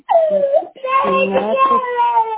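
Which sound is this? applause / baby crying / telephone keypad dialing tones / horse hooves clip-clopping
baby crying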